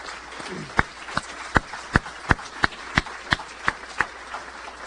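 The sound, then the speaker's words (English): Applause with sharp, evenly spaced claps standing out, about two or three per second, over a faint, steady wash of more clapping. No one speaks. The audience is applauding Max Rule, who announced his retirement, during the outgoing president's address. “Let's give Max a round of applause.”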